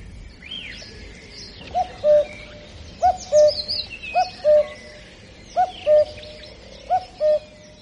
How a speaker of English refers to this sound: Smelling roses and hearing the cuckoo, which absolutely astonished me. It was such an incredible sound.